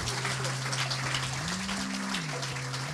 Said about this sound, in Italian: Beh, facciamo un applauso allora, vai, iniziamo a fare un applauso. Grazie.